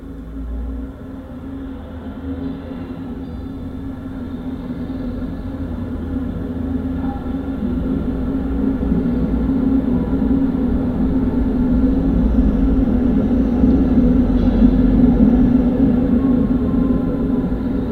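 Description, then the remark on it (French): A tram rolls past on its rails through a city with a heavy, steady low rumble and a droning electric hum that slowly swells louder over about eighteen seconds, with no voices. “la ville mobile s'invite aussi chez les personnes qui vivent proches de ces trams.”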